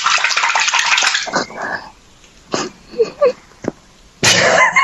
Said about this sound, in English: Would you like to hear a splash? Are we in the bath?